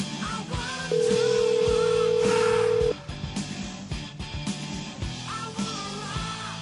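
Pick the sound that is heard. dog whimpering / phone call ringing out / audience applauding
phone call ringing out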